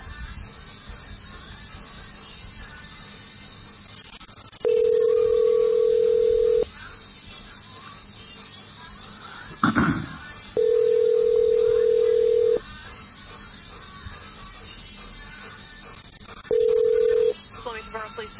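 A steady electronic telephone tone sounds in three long beeps, each about two seconds, separated by pauses, with a brief click partway through over a low, hissy line background.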